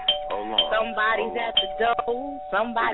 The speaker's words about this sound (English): Hold on. Somebody's at the door. Somebody's ringing the bell. Who's at the door?